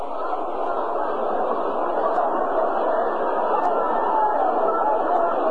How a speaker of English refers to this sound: Crowd of around 40,000 on hand for the game tonight.